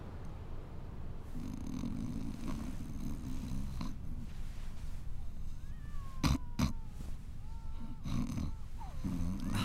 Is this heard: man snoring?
yes